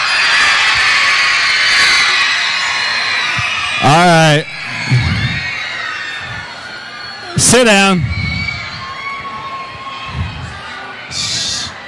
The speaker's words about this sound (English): Stop screaming, white girls.